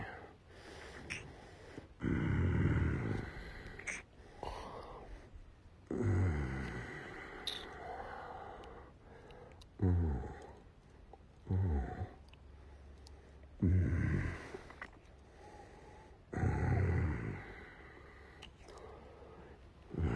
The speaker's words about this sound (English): You like when I growl in your pussy, baby? Hearing the quivers resonate through your pussy lips.